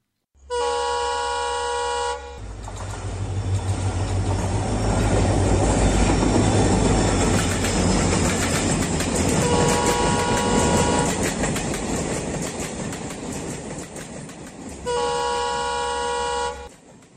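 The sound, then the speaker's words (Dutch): A train in India, the Lifeline Express mobile hospital train, rumbles steadily past with a rhythmic clatter of wheels, bracketed by long, loud horn blasts at the start and end, plus a shorter toot midway. No one speaks. “In het immense land India rijdt sinds 1991 een bijzondere trein, de Lifeline Express.”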